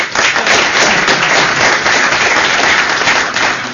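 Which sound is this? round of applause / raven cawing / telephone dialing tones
round of applause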